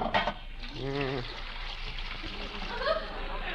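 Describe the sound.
Liquid dyes of several colors are poured steadily into a pot of boiling, bubbling water, a continuous splashing gurgle lasting a few seconds, with a brief voice murmuring partway through.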